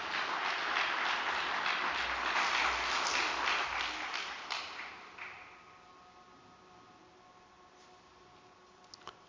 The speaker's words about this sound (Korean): 천심 원장님을 단상에 모실 때 큰 박수 올려주시면 감사드리겠습니다.